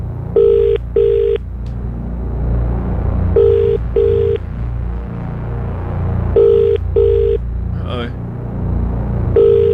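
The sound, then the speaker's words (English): A phone ringing tone repeats in three evenly spaced double bursts as the Magic 931 radio station calls a listener's number, each pair of short buzzing rings clear and steady, over a constant low rumble in the background. “Either way, he's won the Royal Bush Roast Lamb Weather Pack as I put the number into the phone here.”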